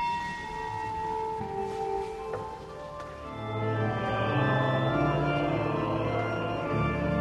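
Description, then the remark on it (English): Church bells of the Church of St. Maximilian in Bavaria, Germany, ring out continuously to herald the evening mass, their overlapping tones swelling and blending into a rich, resonant peal that grows fuller and louder midway through, with no voices present. “At the Church of St. Maximilian, bells herald the evening mass.”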